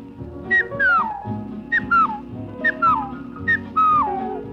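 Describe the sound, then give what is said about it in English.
Someone whistles an imitation of a tea kettle: four repeated shrill phrases, each starting high and gliding downward, with a steady low rumble underneath. “Tea kettle.”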